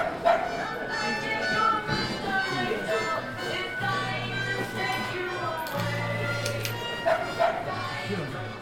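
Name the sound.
dogs barking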